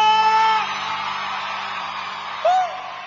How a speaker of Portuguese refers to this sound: E quem gostou, dá um grito!